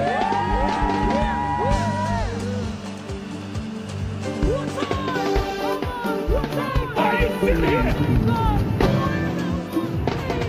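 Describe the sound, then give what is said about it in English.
A crowd erupts in sustained cheering, whoops and shouts, a dense, loud wash of voices that holds steady for about ten seconds with scattered higher yells rising above it. “Let me hear you make some noise.”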